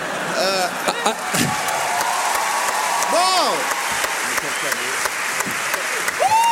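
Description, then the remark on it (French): A large audience at a tour show in Toulouse claps steadily throughout, a dense wash of overlapping hand claps with a few sharper bangs, while scattered voices and cheers rise over the applause. “Pendant les applaudissements, tu bois une petite gorgée.”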